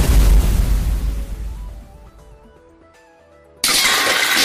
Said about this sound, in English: Computer launched fire cannon from block.